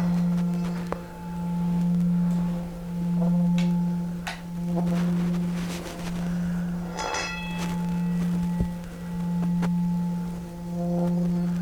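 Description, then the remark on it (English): A meditation bell rings on alone with a low, sustained hum, its tone swelling and fading in slow, regular waves as it resonates, with faint higher overtones shimmering above. “Slowly letting your eyes close, following the sound of the bell into the body.”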